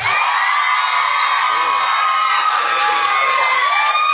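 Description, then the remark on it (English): A loud, sustained roar of an audience cheering, with many children's voices shouting and whooping together, continuous from start to finish, cheering in answer to whether Harry Potter will live by the end of Deathly Hallows. “Do you think he is going to live? Cheer now.”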